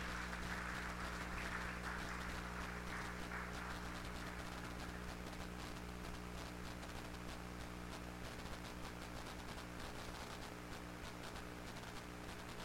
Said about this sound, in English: Come on, somebody. Give the Lord a good hand clap this morning.